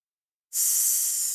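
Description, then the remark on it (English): A person does a snake-breath breathing exercise, exhaling a long, steady, sharp hiss through the open mouth like a snake. It starts abruptly after a short silence and holds at an even, fairly loud level with no talking. “Or a snake, same idea.”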